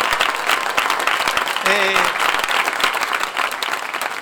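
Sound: applause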